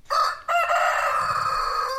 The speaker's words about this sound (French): Le coq de Alain. Et son âne, on est dans les fermes.